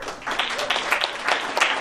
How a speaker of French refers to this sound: Est-ce qu'on peut applaudir toutes les femmes?